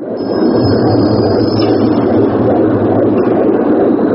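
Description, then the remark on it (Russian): A recording of several dozen human heartbeats, part of an installation by French artist Christian Boltanski at the Grand Palais exhibition centre in Paris for the annual Monumenta exhibition, blends into one loud, continuous droning rumble, dense and low like factory machinery, with a thin high whine riding on top and no voices. “Этот ритмичный гул похож на шум заводских цехов, но на самом деле это запись биения нескольких десятков человеческих сердец.”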